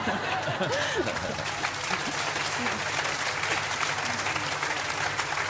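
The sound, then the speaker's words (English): Steady, dense applause from a large crowd fills the whole stretch, a continuous wash of many hands clapping at even loudness, with faint murmurs and a few scattered chuckles mixed in. “There's something special about an audience who really wants to clap, that everyone clearly does feel that they're the exception.”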